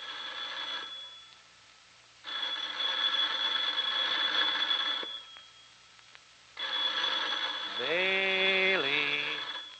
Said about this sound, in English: Phone's ringing